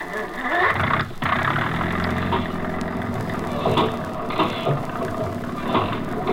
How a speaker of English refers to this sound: Start that engine.